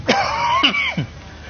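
Three quick, fairly loud coughs in a row, with a raspy throaty sound carrying between them and no talking.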